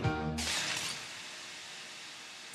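A brief low musical tone gives way to a loud, close smash of breaking glass, followed by a sustained bright hiss of shattering debris that slowly trails off.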